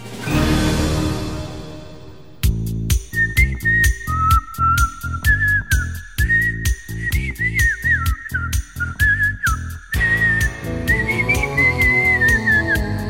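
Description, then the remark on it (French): A person whistles a wavering melody over a loud, rhythmic band backing with punchy drums, the whistle entering a few seconds in and carrying the tune to the end. “Je siffle comme un pied, mais est-ce que les pieds savent siffler?”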